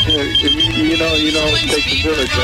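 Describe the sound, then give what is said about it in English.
A thin, high electronic beeping like a pager keeps sounding at moderate volume, running steadily beneath people talking. “Your beeper's going off, man.”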